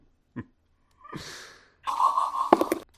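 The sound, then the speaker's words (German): A brief puff of breath, then a long breathy exhale, ending in a heavy, noisy snorting blow through the nose. Fairly loud, with no talking. “Ja, das war der Schnaufer zum Abschluss.”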